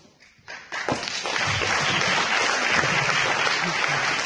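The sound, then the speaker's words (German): Audience applause swells from a few scattered claps into a dense, steady wash of clapping that stays loud for several seconds, with a faint murmur of voices mixed in. “Das ist ein Applaus, das ist nicht meine.”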